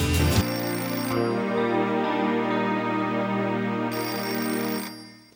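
A telephone rings steadily with a bright, tonal electronic ring, loud, sustained for several seconds with no voices over it.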